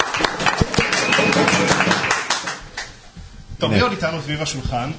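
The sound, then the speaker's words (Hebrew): A short burst of clapping from a small group, dense and lively, fading after a few seconds as voices talk over and then take over, at a gathering around a table with yeshiva students, called for Radio Tel Hai. “איפה מחיאות כפיים”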